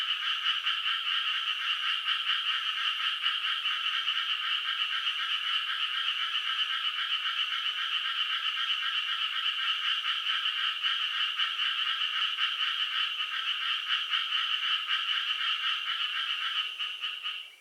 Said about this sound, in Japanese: こちらはとある小学校前で録音したのですが、数匹いると思われるカエルが一斉に鳴き始め、一斉に鳴き止んでいました。どんな意味があるのか、とても気になる面白い音です。